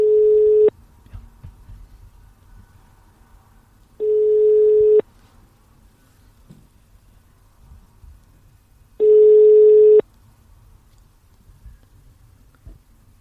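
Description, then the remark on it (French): Three steady, single-pitched ringback tones from an outgoing phone call, each lasting about a second and separated by long pauses of several seconds, with only faint background noise between them. “Ne parlons pas sur les sonneries.”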